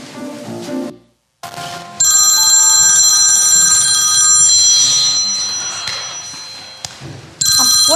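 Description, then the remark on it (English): A loud telephone bell rings in a long, shimmering metallic burst that slowly fades, then starts ringing again after a brief pause. No one speaks. “When I pick up this phone, what word am I supposed to say?”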